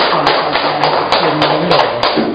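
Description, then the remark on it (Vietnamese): A crowd claps steadily for a couple of seconds to welcome a woman coming up to speak: a dense, fairly loud patter of many hands with a few sharper claps standing out, and no one speaking over it. “À, chúng ta cho một tràng pháo tay để đón nhận người chị em này.”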